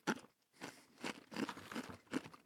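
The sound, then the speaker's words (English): Loud crunching as someone chews dry, brittle freeze-dried chili, with about five sharp bursts spaced roughly half a second apart and no talking. “Yeah, we'll see how crunchy this is. Sorry, audio listeners.”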